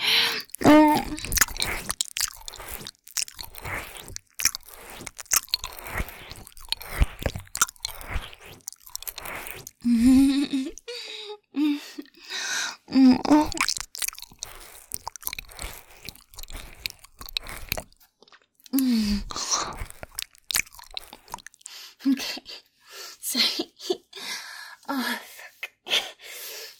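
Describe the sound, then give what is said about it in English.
Wet licking and smacking mouth sounds as someone licks another person all over, irregular and steady for the whole stretch, mixed with soft slurps and occasional short breathy gasps, with no talking. “I just can't help it. I gotta lick you all over.”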